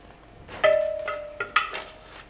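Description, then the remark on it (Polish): A metal spoon knocks and scrapes against a cooking pot of egg soup being cooked, a few times, each clink leaving a short ringing tone, fairly quiet with no voices. “A co ty tam pelczesz w tym zupę jajku? Gotuję.”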